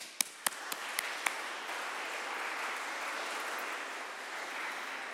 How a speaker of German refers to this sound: Ein großer Applaus an euch.